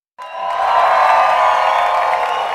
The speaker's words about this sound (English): "Hooray!" shouted the people. "Hooray for Mike Mulligan and his steam shovel! They have dug the cellar in just one day."